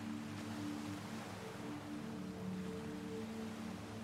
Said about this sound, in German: Die Wellen des Meeres tragen immer mehr die Spuren des Tages am Strand davon. Immer mehr Fußabdrücke im Sand verwandeln sich zu einem schönen, glatten Sandstrand.